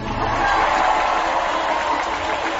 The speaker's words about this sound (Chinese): 接下来让我们掌声有请四川大学华西医院院长李维明先生。